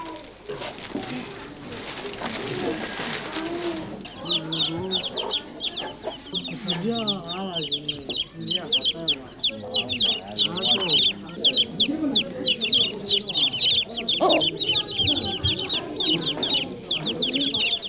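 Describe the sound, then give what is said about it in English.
Eleven newly hatched chickens cluck and peep in a busy, continuous chorus with many overlapping high calls, following a few seconds of rushing noise at the start. “Twenty days later, 11 chickens come out of 21 eggs.”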